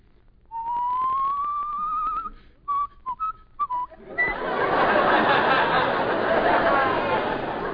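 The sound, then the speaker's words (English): Someone whistles a long, slowly rising note, then several short whistled blips, imitating the south winds coming from the Gulf Stream; a loud, steady rushing noise then takes over and continues to the end. “And from the Gulf Stream comes the whistle of the south winds.”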